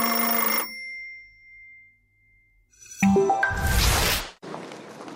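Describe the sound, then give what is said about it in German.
A telephone rings with a bright, buzzy burst and a lingering tone, followed by a rising electronic chirp and a loud swooshing noise; no one speaks. “Es klingelt das Telefon.”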